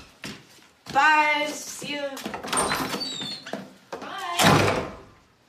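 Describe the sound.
A door shuts with a short thud as a woman leaves, amid scraping, squeaky movement, while people talk and call out over it in brief overlapping voices.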